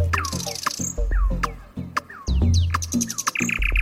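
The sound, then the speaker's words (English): A nightingale sings a rapid, varied run of whistles, chirps and sweeping notes, clear, over a low steady background hum. “just like the nightingale, a bird that sings out in the dark.”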